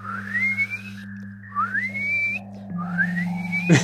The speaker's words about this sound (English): team has got kind of like a dolphin noise machine. What we do is we transmit sound. Let me see if I can do it.